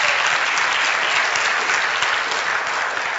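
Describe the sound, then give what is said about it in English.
A crowd claps steadily and loudly for visitors, a dense wash of many hands applauding together without pause for the whole stretch, full-sounding. “And for all of those that are on, yes, let's give our visitors a good round of applause.”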